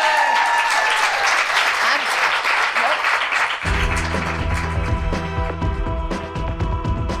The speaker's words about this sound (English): Okay. ladies and gentlemen, please give a huge round of applause for Celia Piccola.